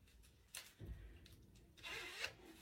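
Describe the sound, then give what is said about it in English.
A zipper is pulled closed in a few short raspy strokes, ending with a longer, louder zip. It is fairly quiet, with no talking. “Zip it.”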